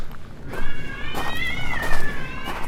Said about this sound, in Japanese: ちょっと聞こえますか今なんでしょう、なんか猫が大合唱してます。